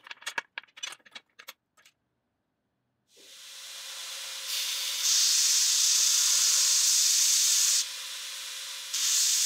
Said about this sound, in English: It's the next morning, so I'll take them out of the clamps and start shaping them on the belt grinder.